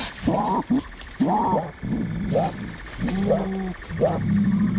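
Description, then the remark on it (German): A mongoose calls in a run of about five raspy, croaking bursts with a hissing edge, toad-like and fairly loud, separated by brief pauses. “Raubtiere und jetzt, wo man weiß, welches Tier das angeblich war, Mongoose, habe ich auch mal nachgeschaut, wie das klingt.”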